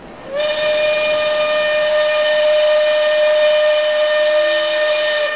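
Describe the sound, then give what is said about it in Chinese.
A train sounds one long, steady whistle blast lasting about five seconds, loud, with a bright harmonic tone and no talking, as the train leaves Nanjing. “坐着火车，目送着那一群逃难的百姓逐渐远去，心里有点难过。”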